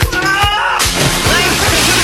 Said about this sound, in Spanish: yo metí las patitas a la piscina. Mira, ¿ya? Cómo chapoteo, mira. ¡Ay, qué suena rico! ¡Ah, qué está rica el agua!